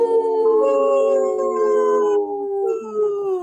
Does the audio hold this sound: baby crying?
no